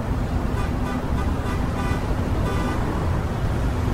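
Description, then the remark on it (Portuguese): Several car horns honk in short, overlapping blasts over a steady roar of road traffic, their tones sounding at uneven moments throughout. “Tá todo mundo buzinando.”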